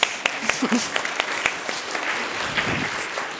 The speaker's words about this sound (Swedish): Åh, en applåd.